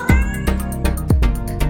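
A tomcat meows loudly twice, each call a falling, drawn-out cry, set against a steady rhythmic music bed with punchy drum hits and no talking.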